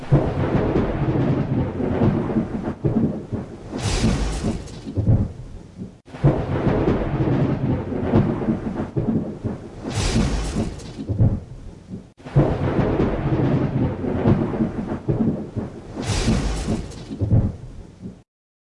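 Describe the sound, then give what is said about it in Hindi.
A thunderstorm with steady heavy rain and deep rolling thunder over Delhi and the national capital region early in the morning, the same roughly six-second stretch of storm sound playing three times in a row, loud, with no voices. “आज सुबह सवेरे शदीद बारिश और गरज चमक के साथ छींटे पड़ने से दिल्ली और कौमी राजधानी खत्ते के लोगों को गर्मी से राहत मिली।”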